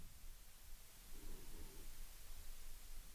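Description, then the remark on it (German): Gentle ocean waves wash ashore in a soft, continuous hiss, swelling slightly midway before settling back. The sound is quiet, with no voices present. “Und höre hinein ins sanfte Rauschen der Wellen.”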